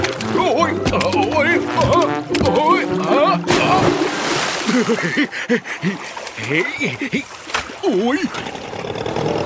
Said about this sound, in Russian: Папа случайно включил мотор.